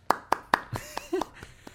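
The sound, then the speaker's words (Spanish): A brief spurt of applause: three sharp, loud handclaps in quick succession, then a few softer, scattered claps trailing off, with a faint murmur of voices in the middle. “Aplausos.”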